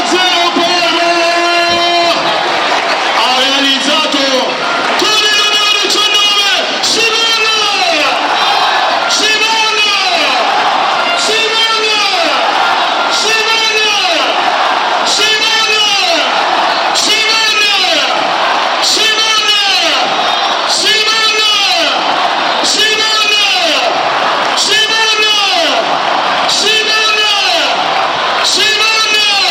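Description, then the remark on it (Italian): A loud stadium crowd at the Tardini celebrates Parma's goal by Simon Som making it 2-0, massed voices roaring and chanting in steady rhythmic bursts every couple of seconds, sustained at full volume for the whole stretch. “Il contropiede del Parma, l'assist perfetto di Mann e Som che ha atteso un attimo per il tiro, ha preso la mira e ha battuto la maglia e allora a voi gli effetti del Tardini.”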